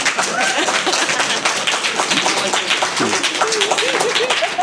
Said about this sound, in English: Can they applaud now since you've cut them off like three times? Oh, for fuck's sake. I guess y'all can.